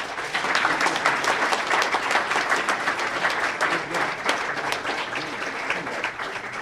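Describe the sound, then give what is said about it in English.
An audience applauds steadily for several seconds to thank the candidates at a Eugene City Council Ward 1 forum presented by the City Club of Eugene, the League of Women Voters and KLCC. It is a dense, even wash of many hands clapping at a fairly loud, constant level with no one speaking over it. “Please join me in thanking our candidates”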